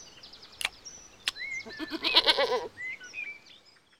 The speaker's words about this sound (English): And that's Gracie, our goat.